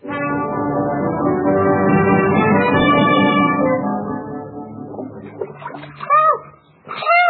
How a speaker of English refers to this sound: the ship hits a rock and we find the Robinson family struggling in the water